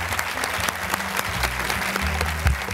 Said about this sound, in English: Please join me in applauding Damien.